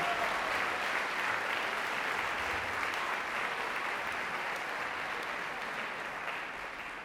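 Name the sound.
audience applause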